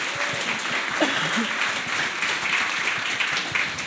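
A crowd applauds steadily, with dense, even clapping that holds at a constant loudness for several seconds. A few faint vocal sounds are mixed in under the clapping.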